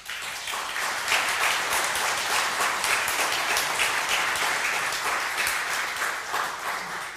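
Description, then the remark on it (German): A crowd applauds the staff and volunteers, a dense wash of many hands clapping at an even loudness for several seconds without a break, with no voices coming through. “Ich glaube, hier ist mal ein Beifall ansagt.”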